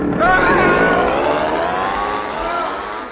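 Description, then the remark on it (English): An outboard motor fitted onto a piano sputters into life and revs up loudly, its droning engine pitch rising at first and then holding steady, continuous for a few seconds. “Now, just fit this outboard motor onto the piano and...”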